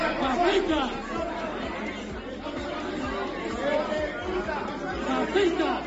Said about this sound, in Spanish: Es el tremendo jaleo que se organizaba ayer en el Pleno Municipal de Don Benito.